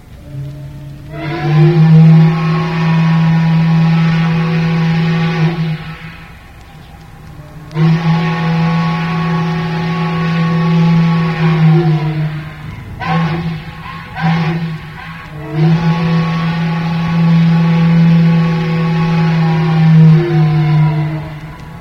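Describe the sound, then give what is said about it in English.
A deep, reedy riverboat steam whistle sounds two long blasts, a few short stuttering toots, then a final long blast, each tone rich in harmonics and sagging slightly in pitch as it ends. The whistle came from a boat built in 1919, first called the Victory. It was used aboard about 20 years, on the Kanawha and Ohio Rivers. “This boat, originally built in 1919, was first called the Victory, and the whistle you'll hear was honored at that time.”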